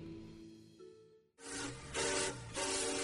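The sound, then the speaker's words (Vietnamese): A train's steady tonal hum gives way to loud rumbling of iron wheels rolling on rails, with surging, regular rhythmic clacks as the carriages roll past. “Rồi trên chuyến tàu về quê cuối năm, trong âm thanh xình xịch đều đặn của những chiếc bánh sắt lăn tròn trên đường sắt,”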